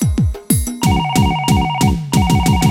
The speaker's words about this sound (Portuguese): telefone toca, são duas horas da manhã. Já tem o rosto dela aparecendo na chamada.